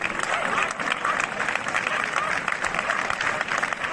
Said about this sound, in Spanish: La Basílica de Santa María está completamente abarrotada. Muchísima gente dentro del templo, muchísima gente fuera para dar el último adiós al que fuera su alcalde. El féretro ha sido introducido en la basílica con esta ovación.